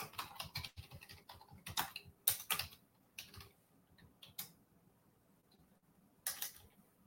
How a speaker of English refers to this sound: I hope everything is working now. Just checking. I'll be typing.